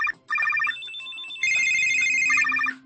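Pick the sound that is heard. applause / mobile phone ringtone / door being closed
mobile phone ringtone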